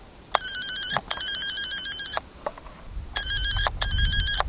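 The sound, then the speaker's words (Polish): A taped-over intercom at the gate of a closed shelter home in Zgierz, Poland, buzzes with a high, warbling electronic ring in four bursts, two long rings, a pause, then two more, over a low rumbling background with no voices; nobody answers. “Domofon zaklejony.”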